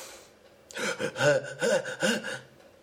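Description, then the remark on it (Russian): A voice imitates blowing hard into a police breathalyzer tube: a few loud, breathy, strained puffs in quick succession, with no other talking. “То сейчас они не будут спрашивать, ты пил, а просто тебе всунут трубку и говорят, дыши.”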